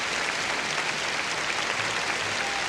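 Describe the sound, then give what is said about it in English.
Sustained applause from a concert audience at Orchestra Hall for Sir George Schulte, Andrzej Panufnik and the Chicago Symphony, a dense, even wash of many hands clapping at once, holding steady and fairly loud throughout with no voices standing out. “And again, Mr. Panufnik is applauding Sir George and the orchestra.”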